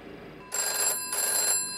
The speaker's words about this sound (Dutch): Ik schrok op van het geluid van de telefoon.